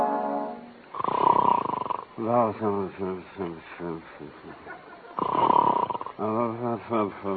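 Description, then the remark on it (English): A man snores in two loud, rasping bursts, with garbled, sleepy mumbling in between, fairly loud. “Every night it's the same thing, snoring and mumbling.”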